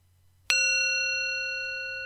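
A single meditation bell is struck once to begin a meditation, ringing out clearly with a sharp onset, then sustaining a long, steady shimmering tone that fades only slightly over a couple of seconds.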